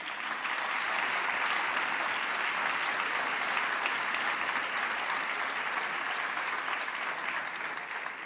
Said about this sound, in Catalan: Un fort aplaudiment.